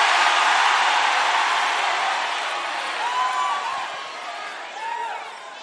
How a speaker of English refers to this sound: Let me hear your loudest amen. You see, when you don't say amen, the message has not entered you. You should be saying amen. You should be standing up and shouting amen.